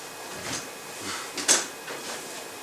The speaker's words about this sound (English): stand up for a second and open the door. And stand in the doorway.